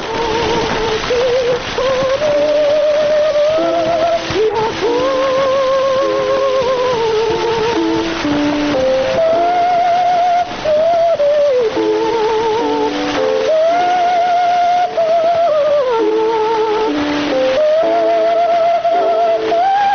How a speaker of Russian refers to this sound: мы покажем запись, которая относится приблизительно к этим же годам. Из «Пиковой дамы» поет Медея Фигнер, ария Лизы из оперы «Пиковая дама». Вот такой мог услышать эту музыку Матисс в 1911 году.